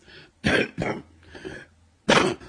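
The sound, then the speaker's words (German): A few short, harsh coughs in quick bursts, with a longer pause before the last loud one, with no talking around them. “Nimm ich und gib ein Hust.”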